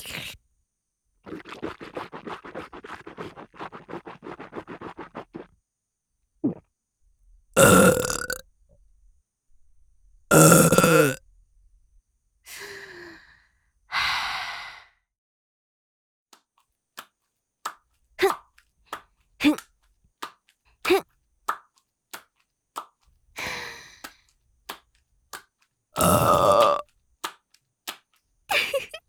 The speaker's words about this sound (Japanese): メスチンポでケツ穴パンパン犯されながら耳元でゲップされる気持ちはどうかの。ほれ、もう一発。